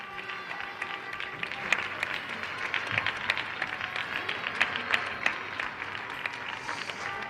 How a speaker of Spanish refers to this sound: Y ahora desde Carabanchel, el micrófono que recoge los aplausos, el sonido,